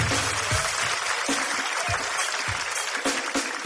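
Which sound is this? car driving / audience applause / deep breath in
audience applause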